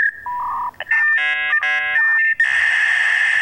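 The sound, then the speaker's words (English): A dial-up modem handshake: a steady high tone, then a run of warbling, stacked beeps and chirps, ending in a loud, hissing burst of static. It is fairly loud and has no talk over it. “I was just going to say, that takes a long time to connect. I have a shorter one.”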